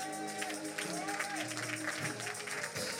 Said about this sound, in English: Not just with the clapping of your hands, but with the fruit of your lips. Come on and give God your worship.